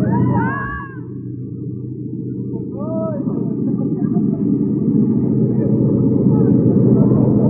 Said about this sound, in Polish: Kołyszę bardzo tym samolotem, ale podejrzewam dlatego, że my po raz pierwszy lecimy.